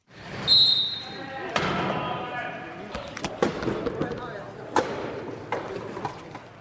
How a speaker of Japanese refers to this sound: このドンドンって、 これはですね、ウィルチェアラグビー、車椅子ラグビーの車椅子と車椅子がこうぶつかり合っている時の音なんですね。 あれがダーンと音なんだ。